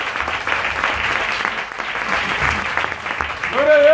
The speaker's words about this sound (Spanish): Si usted le da ese aplauso, dáselo fuerte.